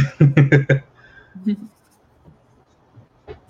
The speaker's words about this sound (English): So I just put down this oil pastel here, gray, and it was way too dark. And so I just took the rag to wipe it down a little bit, and it's like really smooth on the mineral paper. I kind of love that.